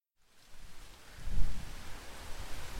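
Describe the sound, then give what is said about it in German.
Strong wind before an approaching storm, with the sky turning black, rushes steadily in a broad hiss, swelling into a deep, buffeting gust midway before settling back to a restless roar. No voices. “Boah, ist das windig.”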